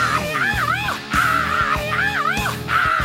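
A novelty car alarm, set off when anyone approaches the car, made of a loud, melodic human scream, a high wavering wail that swoops up and down and loops twice in a steady cycle, with no talking.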